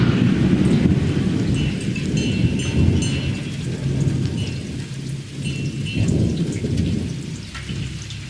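thunder rumbling with rain

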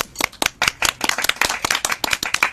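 audience applause

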